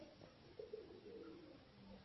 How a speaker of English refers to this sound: That bird doing kokoroko is more authoritative on earth than a demon.